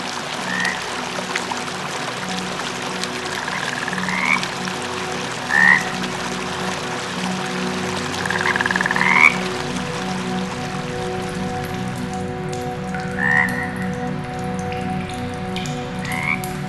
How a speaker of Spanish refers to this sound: Allí hay cientos de ranas. ¿Escuchas eso? El suave croar de las ranas nos llama. Sigámoslo.